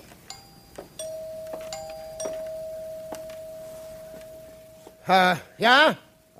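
A doorbell rings indoors, a steady electronic tone humming under faint clicks, then two loud chime-like bursts close together near the end.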